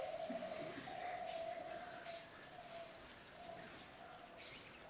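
A bird calls with a run of low, drawn-out cooing notes repeating steadily over a hissy outdoor background, with no one speaking.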